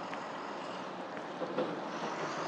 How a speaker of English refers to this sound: It really is quite windy.